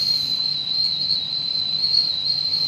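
A steady, high-pitched whistling tone from a train runs unbroken for the whole moment, sitting above a low, rumbling background hum. No one speaks.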